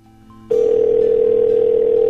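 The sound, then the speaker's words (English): A telephone dial tone starts abruptly after a brief quiet stretch, a loud steady hum that continues unbroken to the end, after the other party on the call hangs up. “Make him hang up on me.”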